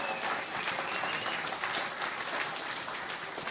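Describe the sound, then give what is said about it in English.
A crowd at River's Edge Brewing applauds the evening's panelists steadily, many hands clapping at once in a dense, even wash of noise that holds at a fairly loud level throughout without any speech over it. “Once again, let's have another round of applause for our panelists tonight who came out.”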